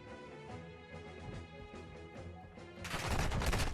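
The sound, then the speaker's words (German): Video game gunfire on the bridge map of the new Call of Duty crackles in repeated rapid bursts over a steady music-like background, swelling into a loud, dense barrage near the end. No one speaks. “Was ist das? Die Brückenmap im neuen Cod.”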